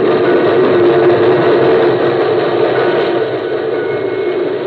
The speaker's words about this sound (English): An engine rushed by me, its escaping steam licking at my legs with a warm white tongue.